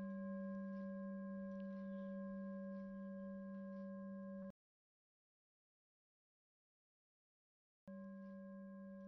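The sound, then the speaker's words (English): A meditation bell rings in a steady, sustained tone with layered overtones, breaks off into about three seconds of silence, then resumes just as steadily. No one speaks. “And the sound of the bell moving through time.”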